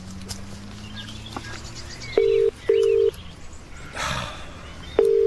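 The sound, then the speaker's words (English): Three short, loud touch-tone beeps from a phone keypad, spaced unevenly as a number is punched in, over a quiet background with faint birdsong and a brief soft rustle. “I need to ring”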